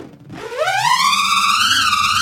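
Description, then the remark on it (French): A high, rising whine like a buzzing insect, made by a tiny nut whirling inside an inflated balloon, climbing in pitch over the first second then holding a steady, slightly wavering tone, loud with no talking. “Et j'ai ici un autre ballon avec un écrou tout petit. Écoute ce que cela donne.”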